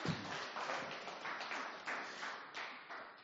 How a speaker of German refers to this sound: Ein großer Applaus für die mehr oder weniger Freiwilligen.